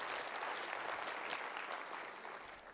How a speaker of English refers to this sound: Give yourself a round of applause for all being here and doing that and communing right now when you didn't want to.